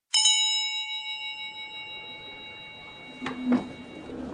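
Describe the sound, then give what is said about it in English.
A single bell is struck once to start the first round of a speed dating event, its clear, bright metallic tone ringing on and slowly fading, with a couple of soft clattering knocks near the end. “Anyway, the first bell's about to ring, so enjoy yourselves.”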